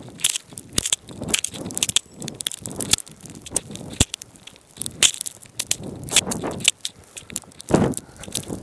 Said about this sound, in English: Wow, it's really hard because I'm walking against the wind, and so all the snow is going into my eyes. And I'm just gonna be quiet for 2 minutes and just see if we can hear the snowflakes hitting the microphone.